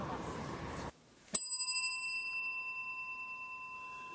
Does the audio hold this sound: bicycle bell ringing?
yes